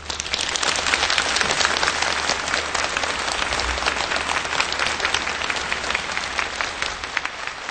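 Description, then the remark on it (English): A large audience in a convention hall claps steadily and loudly for several seconds to welcome a guest, a dense, sustained wash of applause with no voices standing out. “Please let's give her a warm welcoming applause.”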